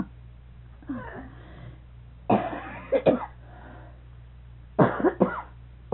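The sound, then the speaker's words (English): Several harsh coughs in separate bursts, a double cough around the middle and another pair near the end, with breathy rasping between them, moderately loud. “I'm going to get you a little cough.”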